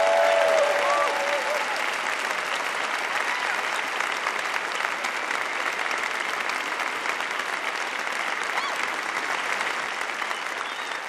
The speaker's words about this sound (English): Big round of applause for Ryan Knighton. Come on.